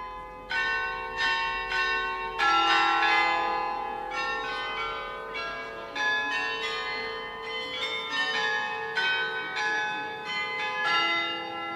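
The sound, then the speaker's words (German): A carillon of 35 bells in the tower of the Neue Residenz rings out a melody, bright bell strikes following one another in a steady tune, each tone ringing and overlapping the next, heard clearly with no voices. “Vom Glockenspiel im Turm der neuen Residenz erklingen schon seit vielen 100 Jahren 35 Glocken.”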